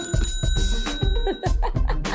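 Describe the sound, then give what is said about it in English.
A small bell rings with a bright, sustained metallic tone that lingers and gradually fades, layered over busy, fluctuating background noise. “Coming through with some sound effects, okay? New year improved me, okay? So I got a little bell.”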